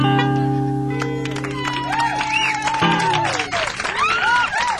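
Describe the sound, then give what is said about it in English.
A crowd applauds and claps steadily for several seconds, fairly loud, with sustained tones early on and rising, whooping cries mixed into the clapping. “I think maybe you can keep clapping along if you want. You did that real well.”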